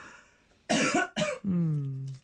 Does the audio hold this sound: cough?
yes